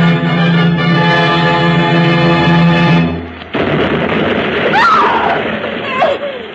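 A sustained tonal drone cuts off into a sudden loud burst, followed by a rushing roar and two whistling, falling shrieks, like distress rockets going up and exploding, fired because a ship has gone ashore in the bay.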